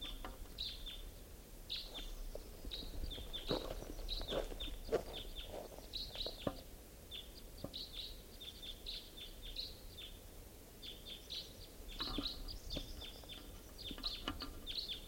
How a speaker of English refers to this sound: Two birds. And the caller is in the Douglas fir.